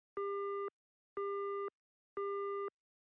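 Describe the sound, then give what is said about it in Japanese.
Three evenly spaced electronic telephone tones, each about half a second long with brief silences between, form the steady repeating pattern of a failed call, heard after dialing a number that is no longer in service, clear with no voices. “はぁ、つながらない。”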